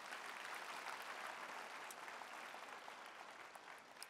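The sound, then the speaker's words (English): A crowd claps steadily in a dense, sustained burst of applause, many hands overlapping into a continuous crackling wash that holds at an even, fairly loud level throughout. “Come on, let's clap it up.”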